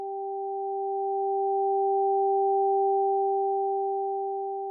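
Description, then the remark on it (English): Two clean electronic pure tones, one high and one low, played through headphones as in Diana's research on where listeners hear each tone, sound together steadily for several seconds with an even, unchanging loudness that swells slightly in the middle. No voices. “Diana's research eventually revealed that most right-handers hear the high tone on the right side.”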